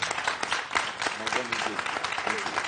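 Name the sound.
applause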